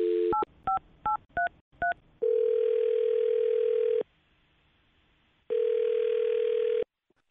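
A telephone dial tone cuts off into five quick, evenly spaced keypad beeps as a phone number is dialed, followed by two long ringing tones separated by a pause, all clear with no voices.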